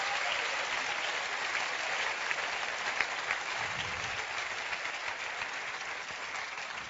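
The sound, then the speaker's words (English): Steady, dense applause from an audience, given as a cheer to Jesus. It fills the whole seven seconds, a continuous wash of many hands clapping at an even, moderately loud level with a few sharper claps standing out. “Dann lasse ich jetzt mal einen Applaus so geben.”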